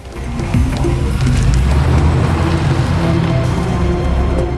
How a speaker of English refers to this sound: The car reverses right up to the man on the ground and stops. It has a Mercedes logo. The car drives off.